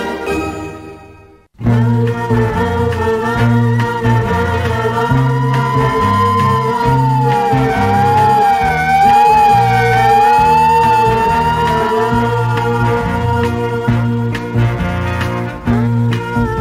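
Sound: ambulance siren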